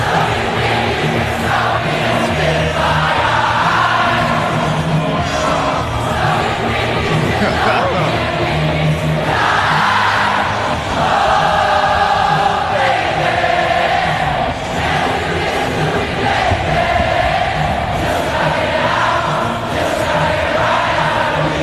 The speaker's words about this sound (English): Now that would have been amazing to be in that crowd, because the concert hasn't even started. Wow. And you're already, you have the sense of camaraderie around you as 65,000 people are singing a song together, huh?